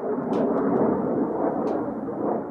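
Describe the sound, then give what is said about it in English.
An F-22 fighter jet with a pilot in the cockpit roars overhead at Holloman, a loud, steady, broad rumbling roar that holds without letting up, with a couple of brief higher crackles riding on top. “Outside, an F-22 flies overhead, a plane with a fighter pilot in the cockpit.”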